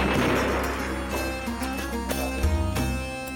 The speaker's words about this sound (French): Le mitrailleur déplaça légèrement le canon de son arme et ouvrit le feu.